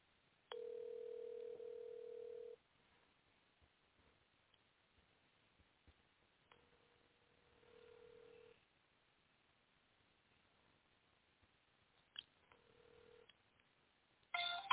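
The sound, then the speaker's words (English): A telephone line tone from a speakerphone call to the head coach of Duluth FC hums steadily for about two seconds, then returns as a fainter two-second tone and a brief short burst, separated by quiet line hiss, ending with a click. “And we're just waiting for the phone call.”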